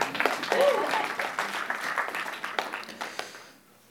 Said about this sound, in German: Kleiner Applaus für meinen Vater.